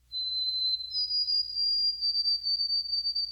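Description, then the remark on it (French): A white-throated sparrow sings in its habitat: a pure, high whistled note, then steps slightly higher into a long, quavering whistle, with a faint low hum underneath and no voices. “Voici le pépiment du moineau à gorge blanche dans son habitat.”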